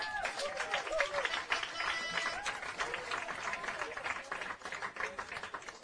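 A crowd applauds steadily throughout at the large Agro studio as a guitarist of the band Siddharta steps onto the stage, a dense, crackling patter of many hands clapping at once, fairly loud and sustained, with faint voices mixed in underneath.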